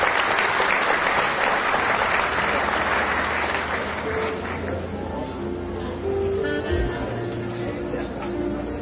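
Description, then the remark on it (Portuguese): Sustained applause from a crowd at a ceremony for those honoured with the title of citizen of Formosa and the Itiquira merit commendation, a dense steady clatter of many hands that holds fairly loud for the whole stretch, thinning slightly toward the end with faint voices and tones mixed underneath. “Uma salva de palmas.”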